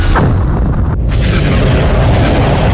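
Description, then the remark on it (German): Heavy cannon fire from three old Dreadnought cruisers firing their ion cannons: loud, continuous booming blasts roll into one another as a dense low rumble, with a brief lull in the crackle about a third of the way in. No voices. “Dreadnought schießen mit ihren Ionenkanonen.”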